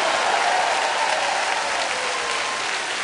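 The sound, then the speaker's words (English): An audience applauds loudly and steadily, giving the Lord a shout, a dense wash of clapping that holds its level for about three seconds, with cheering and shouting mixed in under it. “Come on, give the Lord another shout if you believe it.”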